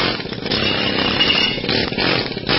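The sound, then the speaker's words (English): A loud, continuous rattling pneumatic air hammer, powered by an air compressor through a hose, runs steadily without pause, a harsh buzzing hammer sound chattering against metal to knock carbon buildup out of a car. “You got to have an air compressor behind that hose, and you got to have some air pressure putting in that air hammer”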